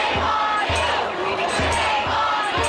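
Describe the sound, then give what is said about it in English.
A dense, loud crowd of protesters shouts and yells continuously during an overnight clash with police in downtown Los Angeles, some throwing flares and fireworks as officers move to break up the crowds, while heavy low thuds repeat about every half second beneath the roar. “Overnight, police clashed with pockets of protesters in downtown L.A., some throwing flares and fireworks as officers moved to break up the crowds.”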